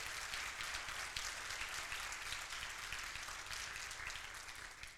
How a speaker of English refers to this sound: I was banking on that clap, so...